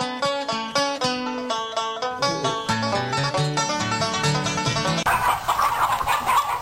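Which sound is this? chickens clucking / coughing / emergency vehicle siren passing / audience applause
chickens clucking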